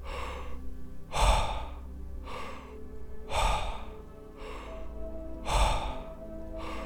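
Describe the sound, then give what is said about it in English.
Forceful, rhythmic power breathing exercise at double speed, with loud, heavy inhales and exhales alternating steadily about once a second, strong breaths trading with softer ones. No one speaks. “Power breathing.”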